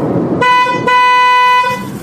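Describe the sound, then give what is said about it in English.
Low road rumble from inside a moving car in traffic, interrupted by a loud, sustained car horn blast with a brief break near the start, lasting over a second before the engine drone returns. “And so I surreptitiously started recording our conversation with her in the car.”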